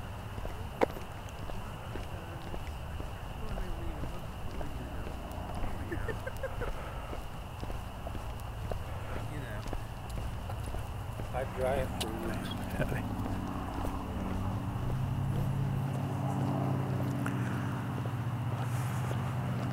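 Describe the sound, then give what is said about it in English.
Cicadas buzz loudly in a steady, high-pitched drone that holds unbroken for the whole stretch, with low rumbling and scattered thumping sounds underneath. “cicadas are pretty loud right now.”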